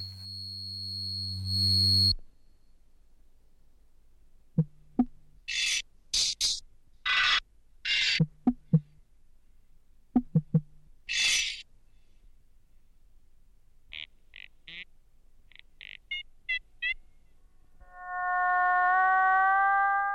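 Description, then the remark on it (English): Early synthesizer tones: a steady buzzing drone, then a run of sharp hissy bursts over low thumps, quick stuttering beeps, and finally a loud wavering electronic tone. No voices. “It was also somewhat popular in an academic environment, where its ability to create and modify pure tones offered a fascinating petri dish in which to try out different kinds of sonic experimentation.”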